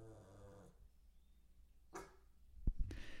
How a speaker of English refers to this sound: He truly woke up this morning and the first thing he did was bark. And we've been working on this for so long.